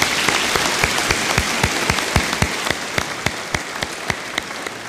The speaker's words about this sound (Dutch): En als we dan toch bezig zijn, Jaco op het orgel, mag ik een heel hartelijk applaus voor hem.